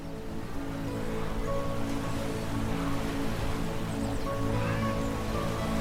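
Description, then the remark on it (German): Gentle, steady lapping of water fills the scene, a soft continuous wash with a faint low hum beneath it and no voices. “Das leise Plätschern von Wasser dringt an dein Ohr.”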